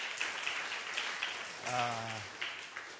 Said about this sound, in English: Once again, give a big hand clap to the worship team.